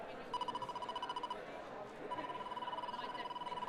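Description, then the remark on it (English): Rapid, high-pitched electronic beeps from a proximity sensor played through a speaker pulse in two bursts separated by a short pause, with a murmur of voices underneath; the sensor chirps faster the closer people walking past come. “And you might be able to hear, the closer it is, the faster it beeps.”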